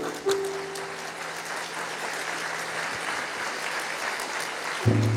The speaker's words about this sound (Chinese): 相信的拍手把荣耀归给主。